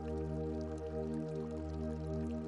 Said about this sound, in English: Just return again to the sound of the fountain, the warmth of the stone, the softness of the air, and the peace of the courtyard. Stay here for a few moments, simply resting beside the fountain.